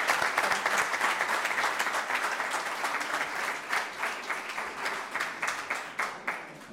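An audience applauds steadily to welcome a former administrator of Santa Giusta, dense clapping that thins out toward the end into scattered, sharper claps. No one speaks.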